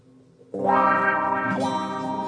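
A quiet tone gives way to a loud, sustained electric guitar chord soaked in effects, distorted and shimmering with chorus and echo, ringing out alone for a couple of seconds, played by a band's second guitarist.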